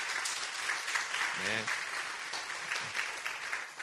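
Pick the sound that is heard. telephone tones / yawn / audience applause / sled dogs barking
audience applause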